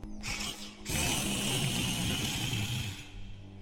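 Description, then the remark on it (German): Loud snoring of hundreds of Zizzes napping in a palace, echoing through the palace garden and roaring like a giant vacuum cleaner: a steady, rumbling whoosh swells in after a softer start, holds for about two seconds, then cuts away. “Es klang wie ein riesiger, überdimensionaler Staubsauger, der den Wald reinigen würde.”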